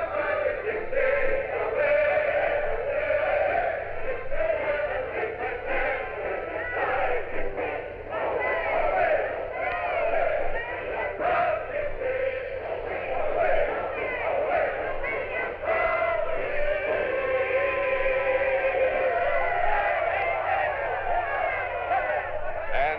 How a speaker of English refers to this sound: The crowd is joining in, singing the words rather defiantly. Let's listen.